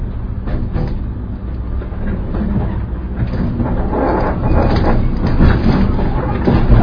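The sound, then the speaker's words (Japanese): A train approaching its terminus, Senzu, rolls steadily along the rails with a continuous low rumble and faint rhythmic clatter, heard from inside, growing slightly louder toward the end. “この列車ですが、先日につきまして急行電車に連絡いたしております。”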